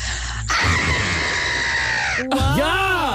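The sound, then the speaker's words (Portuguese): A person attempting a big scream lets out a loud, strained scream lasting nearly two seconds, followed by a shorter, wavering shriek that rises and falls in pitch. Raw, with no other sounds. “Bem, já que vocês pediram com tanta intensidade, eu vou tentar gritar.”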